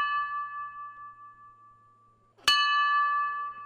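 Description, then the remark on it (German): A large bell of St Giles' Cathedral, the High Kirk of Scotland, in Edinburgh tolls, its deep ringing tone slowly fading before a second clear strike rings out and hums on, with no voices present. “St. Giles wird übrigens auch High Kirk of Scotland genannt und ihre Glocken, die klingen so.”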